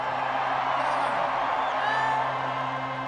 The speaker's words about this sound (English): Real quick. crazy crowd.